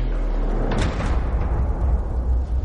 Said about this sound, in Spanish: Cierra la puerta de la caja fuerte.